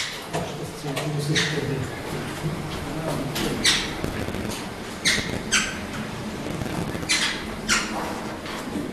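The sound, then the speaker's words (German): Four birds flutter out of an opened transport cage into an aviary of the bird house at the Zolli zoo, with irregular bursts of flapping wings and occasional squeaky calls over a steady low rumble. “macht die Transportkäfig auf und die vier Vögel flattern raus.”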